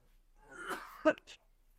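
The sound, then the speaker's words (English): A person clears their throat with a rough, gravelly rasp that builds, then gives a short sharp cough and a smaller follow-up cough, with no talking. “I think in every podcast I've heard you, I've heard you either cough.”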